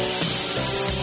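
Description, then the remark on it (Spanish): A surgical drill boring a small perforation into a skull during brain surgery whirs steadily for about a second, a loud, continuous high-pitched grinding whine with a hissy edge, its pitch shifting slightly as it bores. “Ahí perdí el taladro, muy bien.”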